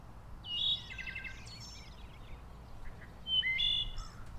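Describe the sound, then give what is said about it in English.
A thrush calls twice, with clear, bright bursts of song a few seconds apart, set against a steady low background hum. “In this case, the thrush is saying, "Hello, I'm here. I'm all right."”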